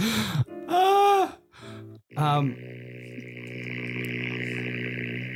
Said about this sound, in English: Glad you got a 7-second fart cue lined up.